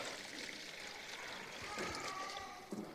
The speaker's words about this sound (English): So we've got some nice warm water, if I can open it. Right, let's get some water in here.